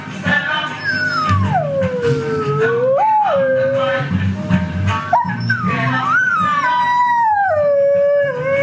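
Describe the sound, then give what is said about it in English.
Dogs howl loudly along to steady, rhythmic reggae music, their long wavering howls rising and sliding down in pitch over the beat, with a few yips and whimpers mixed in. “here are dogs singing to …”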